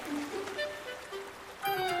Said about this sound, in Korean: 쉴 새 없이 밀려드는 파도가 눈앞에서 부서지고 끊임없이 흰 포마를 토하며 부딪히는 파도 소리가 귓전을 때린다.